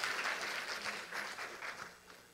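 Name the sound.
audience applause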